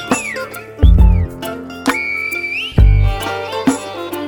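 Sliding, high-pitched human whistles of El Silbo, the whistled language, rise and fall in long tones as a whistled signal between mountains on the island of La Gomera in the Canary Islands, with a couple of deep, booming low thuds underneath.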